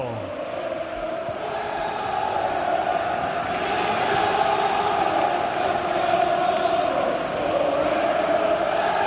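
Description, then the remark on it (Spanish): Huesca football players shout and chant together in celebration on the pitch of El Molinón, a dense, steady roar of many voices that holds at an even, loud level for about nine seconds. “Es lo que están gritando los jugadores del Huesca en el césped del Molinón.”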